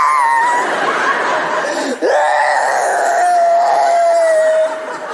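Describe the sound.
A single voice performs exaggerated fake crying, imitating a woman crying, with wavering, whiny sobs, a sharp break and swoop midway, then a long drawn-out wail. It is loud, with no other talk.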